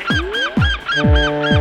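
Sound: seagulls crying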